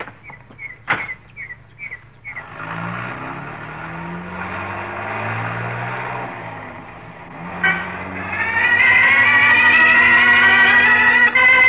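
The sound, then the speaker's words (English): A car engine revs up and accelerates hard as the car drives away fast after a dog is put out of it, its pitch climbing in two surges and growing louder, preceded by a few brief clicks and chirps; no one speaks. “I took that dog 25 miles away from here and put him out of the car.”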